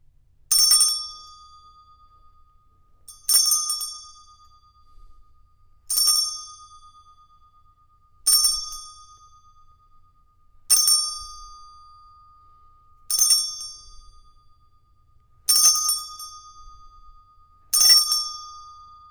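A bright metallic chime rings eight times at a steady, unhurried pace, each clear strike fading out before the next. It is fairly loud, with no one talking.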